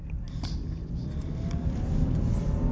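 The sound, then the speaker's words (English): Steady low road rumble of a car in motion on Barrett Parkway in Kennesaw, where the mall is, with a dense engine and tire drone filling the background and slowly building slightly louder; no one speaks. “I'm on Barrett Parkway. This is where the mall is in Kennesaw. I hate coming to Barrett Parkway. It's usually a one big traffic jam.”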